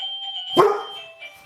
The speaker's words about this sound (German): Ui, es klingelt. Ja. Los, geh gucken. Ja, wie ihr hört, ganz verrückt, wenn die Klingel geht. Dann geht der Hund als unsere zweite Klingel.